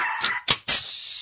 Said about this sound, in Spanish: Ese perrito neurótico.